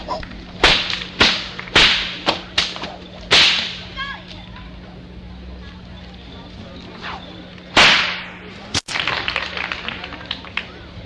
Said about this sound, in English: all ready to crack that whip from Jacksonville, Florida. The real Florida cracker.